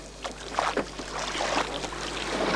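Oars dip and pull through water in a steady rowing rhythm as a crew rows a boat using an old rowing technique, with splashes and swirling water and a soft breeze in the background.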